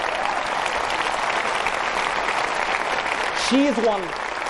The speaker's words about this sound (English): Now, let's have another round of applause for her and the great job she's doing.